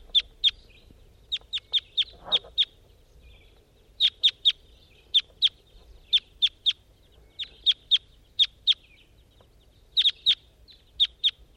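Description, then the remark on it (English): Two wild birds giving fear or alarm calls in the distance: sharp, high-pitched chirps repeated in quick bursts of two to four, steady throughout, with no one talking. “Those wild birds are now in a distance, and they're giving those fear or alarm calls way in the distance.”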